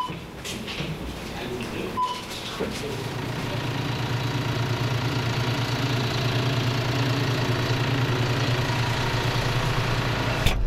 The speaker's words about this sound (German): Jetzt kann sie losgehen, die morgendliche Kartoffelernte. Grüner Traktor diesmal, John Deere, grün-gelb gehalten. Zeit raus auf den Acker zu gehen, Kartoffelerntezeit im Westerwald.